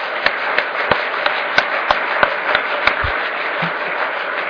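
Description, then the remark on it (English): Steady applause from an audience for a panel, a dense wash of many hands clapping at an even level, with a few sharper individual claps standing out at regular intervals throughout. “But maybe before you do, a round of applause for the panel.”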